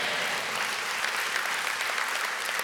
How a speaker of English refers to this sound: Can I get an amen and a clap?